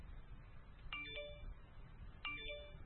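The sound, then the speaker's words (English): A mobile phone rings with a short electronic melody, two quick tonal bursts about a second apart, sounding fairly quiet and slightly thin over a low background hum. “Does that make you just want to reach for your purse right now? Just to make sure it's not your phone?”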